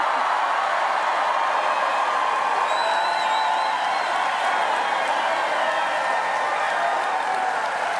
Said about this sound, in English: Now, that is what you call a crowd response. I don't know. But oh, yeah. It's exciting just to listen to it, how just incredibly hopeful and engaged people are.